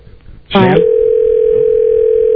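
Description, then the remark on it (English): After a brief burst of voice-like sound, a steady, loud telephone dial tone hums on without a break after the caller hangs up, a flat single-pitched drone holding to the end. “Yeah, she hung up.”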